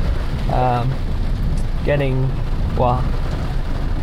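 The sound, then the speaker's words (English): Heavy rain pours down steadily in a dense, continuous hiss at an outdoor plaza, while a person's voice breaks through in a few short bursts over the downpour. “Hiding from the rain.”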